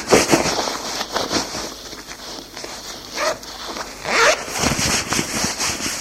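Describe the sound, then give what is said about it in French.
Quick rasping zipper pulls, several short bursts over about six seconds, mixed with rustling fabric as someone dresses in a hurry; no voices. “Jean, lui aussi, s'habille en vitesse.”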